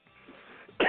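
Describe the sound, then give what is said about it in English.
A single sharp, loud on-air cough bursts out at the very end after a moment of near-quiet, with only faint shuffling and breath before it. “Professional on-air cough.”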